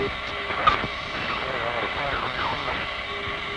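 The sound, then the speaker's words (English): A steady aircraft engine drones continuously at moderate loudness, with a faint muffled voice underneath and a brief click near the start. “Okay, how's our engine sound like we're going away from you right now?”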